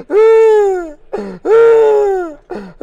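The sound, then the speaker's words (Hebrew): A voice imitates groaning shevarim shofar blasts: two long, loud, drawn-out moaning tones that sag in pitch at the end, separated by short breaths, with a third starting as it ends. “זה נקרא? ומה זה נקרא במילים שלנו? שברים.”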